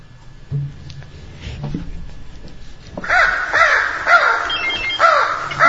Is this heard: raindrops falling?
no